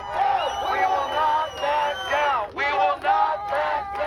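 A large crowd shouts and cheers loudly in unison, many voices overlapping in rhythmic surges with brief pauses between phrases, like a protest chant rising close by.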